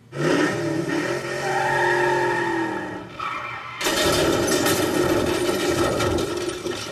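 truck engine revving

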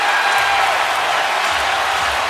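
arena crowd cheering

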